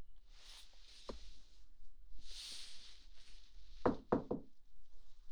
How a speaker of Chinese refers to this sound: 进来进来，进我房间不用敲门啊，真是的。